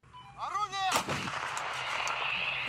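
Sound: artillery fire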